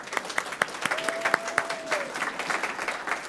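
Audience applause at a comics awards show, thanking everybody who voted: a dense patter of many hands clapping steadily for a few seconds, with some sharper individual claps standing out and a thin steady whistle-like tone briefly in the middle.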